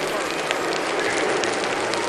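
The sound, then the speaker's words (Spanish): Steady hiss of rain falling at the head of a cycling race, where rider Mattia Cattaneo is in the breakaway: a dense even wash of noise with faint scattered taps and spatters running through it the whole time. “Ahí está sonando en el sonido Matamoros la lluvia en cabeza de carrera con Mattia Cattaneo.”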